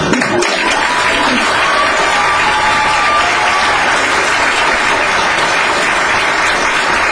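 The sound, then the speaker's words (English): A large audience applauds steadily for Mr. Carter, dense overlapping claps filling the space with a loud, sustained roar, with some cheering mixed in throughout. “Is it who is out here right now clapping and cheering for Mr.”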